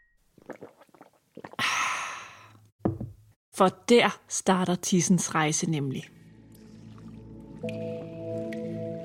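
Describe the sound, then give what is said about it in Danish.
A short wet slurp and gulp of water at the start, followed by a person speaking, then soft background music with a gentle tone. “Men i stedet for at starte med det, der kommer ud, så starter vi altså lige med det, der kommer ind. Skål igen”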